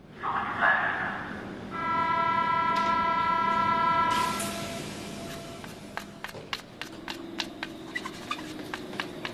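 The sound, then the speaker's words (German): At night inside an underground U-Bahn station in Berlin-Mitte, Germany, a train rumbles in with a tonal whine and a brief horn-like hum, then fades into steady rolling noise with sharp rhythmic clicks of wheels over track joints. “Neulich nachts auf einer U-Bahn-Station in Berlin-Mitte.”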